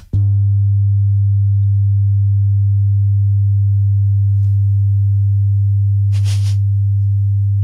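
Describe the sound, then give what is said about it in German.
A steady, loud low bass tone at 100 hertz hums unbroken for several seconds after a sharp onset, with a brief rustling noise near the end. “Das ist nämlich ein 100 Hertz Basston.”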